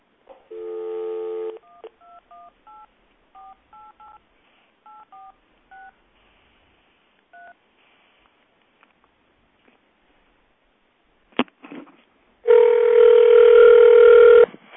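A time-announcement telephone number is dialed with touch tones over a Vonage line on speakerphone: a brief dial tone, then about a dozen short beeping keypresses in uneven rhythm, a pause and click, then a loud sustained line tone.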